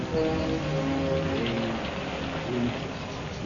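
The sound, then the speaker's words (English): Steady rain falls over a ruined North African town in a continuous, even hiss that fills the whole stretch without pause, with faint low murmuring voices buried underneath. “In a small dispensary set up in a house with windows blown out, a group of German soldiers huddle out of the rain.”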